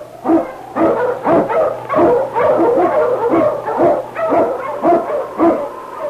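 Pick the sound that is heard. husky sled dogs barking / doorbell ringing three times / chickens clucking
husky sled dogs barking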